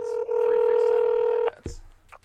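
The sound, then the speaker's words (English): A steady, two-pitched telephone tone, from a call being placed to reach someone by phone, rings out clearly for about a second and a half, then cuts off abruptly with a click, followed by faint background rustle. “So we're going to have to get him on the phone.”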